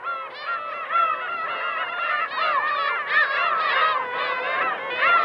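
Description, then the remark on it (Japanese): A large flock of seagulls calls continuously, dozens of shrill, overlapping cries blending into a loud, dense chorus, swarming around a harbour covered in new concrete at Torinoumi, a brackish lake facing the Pacific in Watari town, Japan, with no talking. “おびただしい数のカモメたち、真新しいコンクリートで覆われた港のあたりに群がっていました。”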